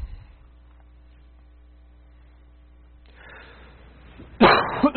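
A steady electrical hum runs quietly underneath, then near the end a single loud, harsh cough from a lingering cough bursts out after a brief rustle of breath.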